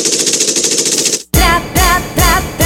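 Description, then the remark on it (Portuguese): A rapid, steady burst of machine-gun fire rattles for over a second, then cuts to a short silence followed by three loud, heavy booming hits with musical tones. “Pegue a metralhadora.”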